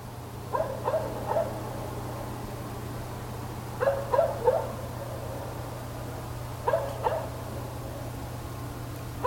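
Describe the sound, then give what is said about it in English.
Distant dogs bark at night in short clustered bursts, three volleys of two or three barks each, faint and far off over a steady low background hum with no talking. “Night distant dogs bark, crickets, parents, owl screech, car passing”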